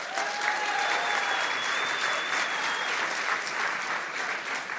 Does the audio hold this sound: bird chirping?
no